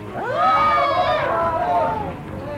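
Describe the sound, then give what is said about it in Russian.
A crowd of about 1000 people lets out a terrible, sustained scream, many voices wailing together in a loud, high-pitched cry that swells quickly and then slowly trails off over a low rumbling background. “Жуткий крик 1000 людей.”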